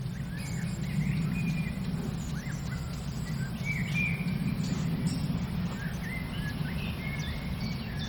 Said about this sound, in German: Und den Specht hören wir. Spechte sind aktiver auf jeden Fall als heute Morgen.